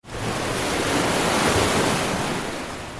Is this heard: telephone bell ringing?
no